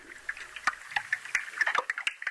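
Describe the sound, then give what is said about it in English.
Icebergs crackle and pop in Jökulsárlón, the lagoon at the outlet of the Vatnajökull glacier, where pieces of iceberg constantly break off as air trapped in the ice escapes: a dense, irregular stream of sharp clicks and snaps over a faint watery hiss, fairly quiet, with no voices. “what you're hearing is the kind of cracking in the air that's been stuck in these icebergs for millions of years”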